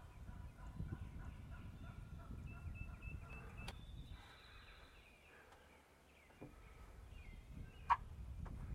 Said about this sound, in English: managed to get out here while it was dry. And I just started to crank on a box call. And I woke up a bunch of turkeys.